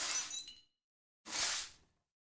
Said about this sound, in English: And then, of course, it's, as I mentioned, that's the reverb from a trash can applied to just another glass impact.